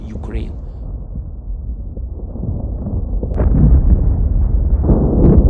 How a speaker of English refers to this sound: Fireworks burst in the sky above the Olympic Park. More explosions erupt, illuminating a city under fire.